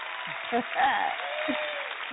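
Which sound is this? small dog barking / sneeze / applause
applause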